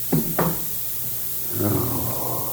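A door being closed: two quick wooden thuds in succession, followed by a softer, drawn-out creaking rustle as it settles, with no talking.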